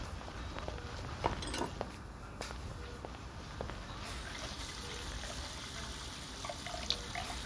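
Water runs steadily from a tap into a sink, a continuous hiss broken by a few soft clinks and knocks, with no talking.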